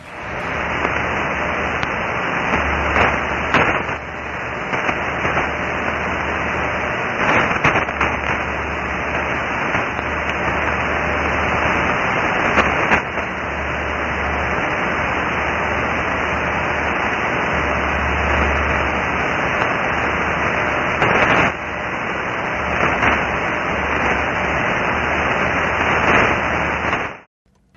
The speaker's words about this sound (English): You can definitely hear the strong tone sending and then the weaker tone echoing off the moon's surface. Hey, take a real quick listen to this test.